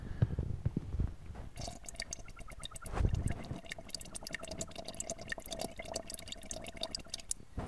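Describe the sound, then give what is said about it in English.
A water bong bubbles in a rapid, steady gurgle for several seconds as someone takes a hit, with a couple of low, muffled thumps near the start and midway. No one speaks. “I gotta hit my bong, operator, one second.”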